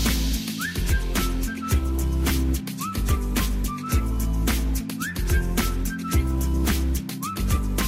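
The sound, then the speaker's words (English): Short whistle blasts that swoop upward and hold, repeating about every two seconds over a steady, bass-heavy dance beat with thumping drums. “Can you blow that whistle? You say whistle, we say bum, bum, bum.”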